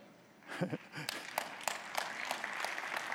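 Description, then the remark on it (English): A crowd breaks into applause after a quiet moment, settling into steady, dense clapping with a few sharper claps standing out, and a brief voice near the start. “Before you clap too hard, so are you.”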